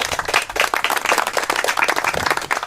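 A poetry slam audience claps steadily, dense overlapping handclaps forming continuous applause that stays loud and even throughout, with no talking over it.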